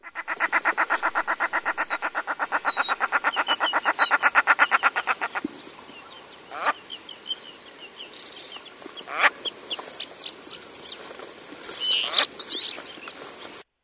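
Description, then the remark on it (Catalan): A common shelduck at the Estany Pudent pond gives a long, rapid run of loud, even cackling notes, then falls quieter while scattered calls and other birdsong continue around the pond. “Aquest era un ànec blanc o bona. Què és aquest? Sí, un t'adorna, així és.”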